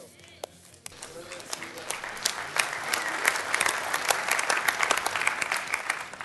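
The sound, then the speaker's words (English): An audience breaks into applause after a brief quiet moment, the clapping swelling quickly into a dense, steady roar of many hands that holds at full strength to the end. “Don't clap.”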